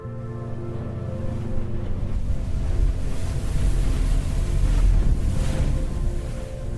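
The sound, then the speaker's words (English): Steady ocean waves wash and churn beneath gusting wind, with a low engine-like rumble underneath, recorded aboard a boat heading from Santa Cruz Island back to the mainland in fog. Continuous and fairly loud, no voices. “On the boat heading back to the mainland, I look back at Santa Cruz Island as it disappears in the fog behind me.”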